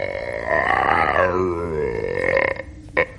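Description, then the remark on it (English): A person imitates a lion's roar with a long, strained vocal growl that rises and then sags in pitch for about two and a half seconds, followed by a short, sharp vocal burst. “For your other mark, let's hear your impression of a lion.”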